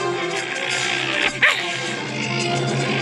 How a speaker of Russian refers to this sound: Залаял щенок, потом вспомнил, как рычал лохматый пес и зарычал.